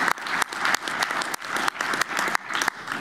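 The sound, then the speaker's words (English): An audience at a convention applauds itself for record attendance, a dense, continuous patter of many hands clapping at a fairly loud level with no voices over it. “Thursday, yes, applaud yourselves.”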